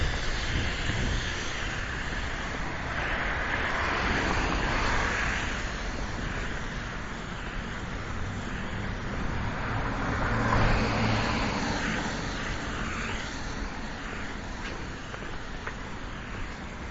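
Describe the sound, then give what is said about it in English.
Steady traffic roar from a bunch of cars speeding along a wet road in light drizzling rain on Sherburn, a continuous hissing wash of tires with one vehicle swelling slightly louder as it passes midway. No one speaks. “A bunch of cars driving really fast in the rain.”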